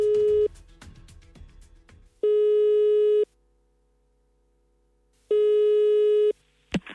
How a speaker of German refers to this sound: Leitung steht, wir rufen jetzt durch.